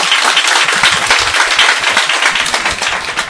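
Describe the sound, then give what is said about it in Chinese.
A crowd breaks into sustained applause for themselves, a dense, steady wash of many hands clapping at once, loud and even throughout with no voices standing out. “俾啲掌声自己先啦。”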